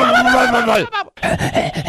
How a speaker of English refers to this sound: God bless you. How does a sneeze get thrown into the noise maker?